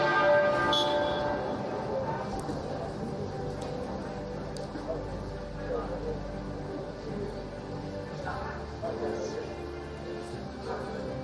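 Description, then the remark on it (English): Church bells toll steadily across the United Kingdom to mark the death of Queen Elizabeth II, their resonant tones overlapping and ringing on throughout, with faint murmuring and outdoor background noise beneath. “Those were the bells ringing across the United Kingdom to mark the death of Queen Elizabeth II.”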